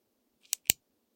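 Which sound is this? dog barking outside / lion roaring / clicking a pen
clicking a pen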